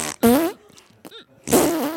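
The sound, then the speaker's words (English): Two loud, buzzy raspberry blows made with the tongue, one near the start and a longer one near the end, with a brief quieter vocal sound between them. “Wow, she really likes farts.”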